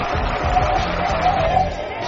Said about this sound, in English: I can play the applause, but I don't even think he can hear it.